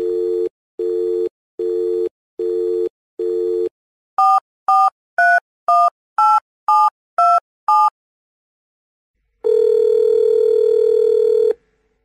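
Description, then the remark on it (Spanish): Telephone tones with no voices as a call is placed: five short evenly spaced beeps, then eight quick dialing key tones in a steady rhythm, then a long, steady dial tone hum. “Mire, lo llamo otra vez, lo voy a molestar.”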